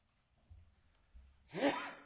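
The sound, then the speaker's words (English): One sudden, forceful sneeze bursts out after a stretch of near silence with a couple of soft low thumps, its breathy noisy blast carrying a brief voiced pitch before trailing off. “Bless you.”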